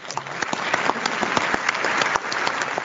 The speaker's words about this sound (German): Zum Schluss war die Wahl eine reine Formsache. Sie erfolgte ohne Abstimmung und mit Applaus.